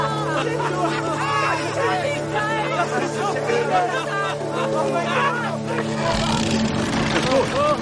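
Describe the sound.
A motorboat engine drones steadily at a low pitch beneath a busy crowd of overlapping voices, the hum fading out near the end as the chatter continues.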